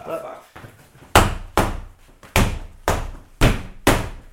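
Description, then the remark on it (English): A fist punches a wall in a house in a series of about six heavy, dull blows, falling in a rough, uneven rhythm after a brief quieter stretch at the start. “She doesn't like you devaluing your property by punching holes in a wall.”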